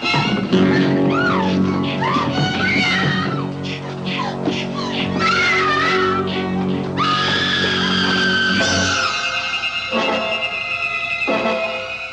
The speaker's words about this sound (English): These Women in Danger films all really boil down to just one same image, one disturbing image, a woman screaming in abject terror.